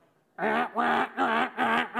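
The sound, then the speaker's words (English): A voice imitates a duck-like quacking bedroom alarm clock: four loud, nasal quacks in a steady, evenly spaced rhythm, alone after a brief moment of quiet. “It is very ungracious. And it sounds like a constipated duck.”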